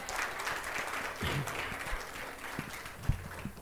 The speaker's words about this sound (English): Happy Mother's Day to all of my moms. Somebody clap for that. Come on.